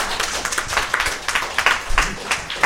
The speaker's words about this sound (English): Ladies and gentlemen, Beth Stallion, please clap for Beth. Thank you. All right, now let's all clap for Beth Stallion, everybody.